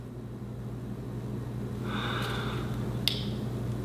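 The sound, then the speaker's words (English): A student breathes heavily during a class test: a heavy, drawn-out breath rises over a steady low hum, followed by a brief sharp puff, moderately loud, with no one speaking. “Damn, this test even got one of the smart kids breathing heavily.”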